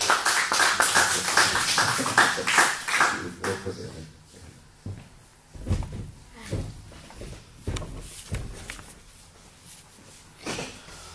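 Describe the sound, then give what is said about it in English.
A round of applause from a crowd, dense and steady for a few seconds, then thinning out into scattered, irregular claps that fade away toward the end. “We can give a round of applause to our...”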